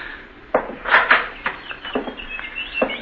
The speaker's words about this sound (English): Quite a collection of canaries you've got here. Yes, I have.